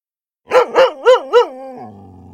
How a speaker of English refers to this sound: Maggie heard Akiak barking.